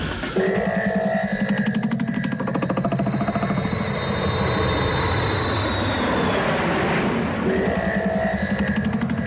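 A small propeller plane's engine drones steadily and loudly in flight, a continuous buzzing hum with a slight rise and fall in pitch, with no voices.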